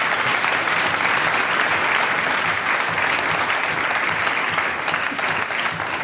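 An audience claps steadily throughout, a dense, even wash of many hands at full volume with no break and no voices standing out.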